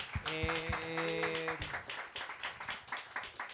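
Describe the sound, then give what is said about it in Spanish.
An audience applauds with a dense, steady patter of many hands clapping, opening under a brief sustained musical tone that fades after the first second and a half. “Bien, aplausos.”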